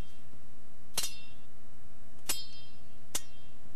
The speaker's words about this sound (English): A challenging part of the game is the variation. Tom will ask for two or three different sword sounds. So if she's unsheathing her sword, there's going to be 20 or 30 of those sounds, so that you don't hear the same sound 30 times in a row.